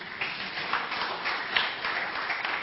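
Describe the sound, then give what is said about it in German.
Steady audience applause for two guests of a panel discussion, a dense wash of many hands clapping at an even, moderate loudness with brief swells, and no voices over it. “da gab es auch gerne Applaus geben, wenn es gewünscht ist.”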